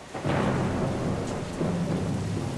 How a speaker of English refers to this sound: And then it rained quite a lot for Los Angeles.